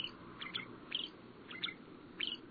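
A shrike sings a series of short, harsh, high-pitched phrases, repeated roughly every half second, over a low background hiss with no talking.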